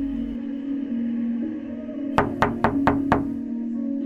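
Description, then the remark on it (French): Five quick, evenly spaced knocks on the door of a dilapidated house in a Russian village in winter ring out sharply over a steady low hum of the television playing inside, then stop. “On frappe à la porte.”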